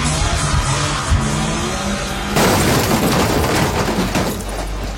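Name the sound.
car crash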